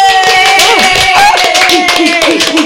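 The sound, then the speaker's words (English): A round of applause for a comedian guest introduced on a show, steady dense clapping that stays loud for a few seconds, with sustained tones and wavering, whoop-like voices running through it. “A round of applause, man.”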